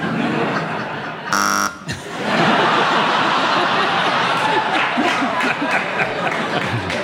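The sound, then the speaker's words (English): A game show buzzer blares once, loud and harsh, for about half a second amid a murmuring audience, followed by sustained laughter and crowd chatter. “you buzzed.”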